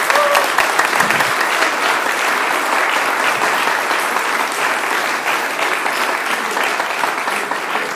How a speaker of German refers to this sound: Und ich finde, diese Männer haben jetzt einen ganz dicken Applaus verdient.